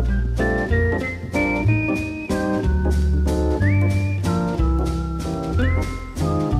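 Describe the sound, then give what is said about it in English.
A bright whistled melody with smooth upward slides, doubled note for note by a plucked guitar line played in unison by the same musician, over a steady bass and rhythm accompaniment, playing continuously and fairly loud with no voices. “whistling and playing guitar in unison, even as he seemed to improvise.”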